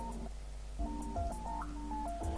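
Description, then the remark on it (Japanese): A mobile phone ringtone plays in a student's dormitory room: a short electronic melody of sustained, evenly pitched tones stepping up and down, clear, over a low background hum with no voices. “半ば荷物の整理も進み、寝る準備を始めた E の耳に携帯の着信音が入った。”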